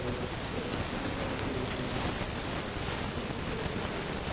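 Steady, dense rainfall hisses without a break, a heavy downpour filling the whole scene at an even, fairly loud level with no voices.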